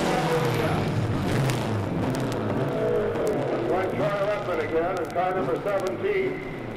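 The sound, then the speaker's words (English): A race car with an oil leak on its left side drones low and drops in pitch as it comes down the track's straightaway and decelerates, fading under a steady stream of a man talking over it. “They came down the straightaway. There are definite indications of an oil leak on the left side of the car.”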